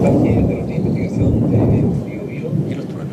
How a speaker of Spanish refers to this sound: Y tormenta eléctrica, mira, nos enviaron un audio y lo vamos a escuchar de los truenos. Esa es la calma de San Antonio. Y los pajaritos. Y algo de lluvia, ¿no? Viento.